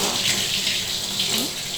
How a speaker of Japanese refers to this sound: 手桶でゆっくり丁寧に流していきますからね。もう一度ザバーッと。